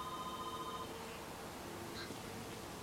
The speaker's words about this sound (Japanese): ビーってなったの。電話？